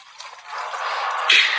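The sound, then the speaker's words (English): Steady running water like a brook, heard at sea off a ship's port bow with no land near, a continuous bright rushing hiss that swells gradually and surges briefly louder near the end, with no voices. “Sounds like a brook running down a hillside.”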